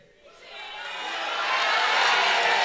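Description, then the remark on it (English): An audience at a camp breaks into applause for a woman, swelling quickly from quiet to a full, steady wash of clapping, sustained, with no talking over it. “Clap for her.”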